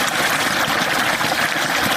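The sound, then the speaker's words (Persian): A steady, continuous rush of flowing water in Afghanistan, dense and hissy, holding an even level throughout with no voices or breaks. “این صدای آب روان را شاید مردم در مناطق جنوب و جنوب غرب افغانستان کمتر بشنوند، زیرا سطح آب پایین آمده و مشکلات ناشی از کمبود آب در بسیاری مناطق افزایش یافته است.”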